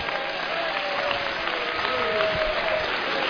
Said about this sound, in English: Let's give the Lord a good hand clap right now. Thank you, Jesus.